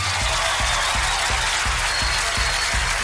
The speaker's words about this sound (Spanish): Fuerte aplauso para nuestros dos amigos teloneros, por favor.